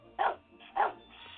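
A dog barks twice, two sharp, mid-pitched woofs about half a second apart, fairly loud against a faint background hum with no one talking.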